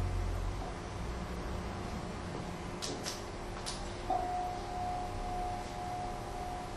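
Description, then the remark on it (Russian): A gentle small bell rings once, its soft, clear mid-pitched tone sustaining for a couple of seconds over a steady background hiss, with a few faint clicks just before. “Нежный колокольчик, он звучит.”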